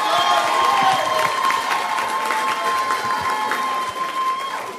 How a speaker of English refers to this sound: First of all, as I mentioned when we started the concert, every one of these students are winners. And I think let's give them a real great round of applause, every one of them.